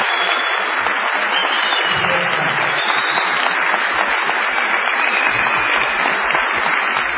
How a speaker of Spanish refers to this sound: Aquí estamos en la ciudad de Tucumán, en el Teatro Mercedes Sosa. Vamos a saludar con una ovación a Patricio Bartón.